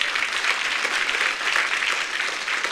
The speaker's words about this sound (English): Happy Father's Day. How many fathers we got in here? Anyone? Yeah, give them a round of applause, guys.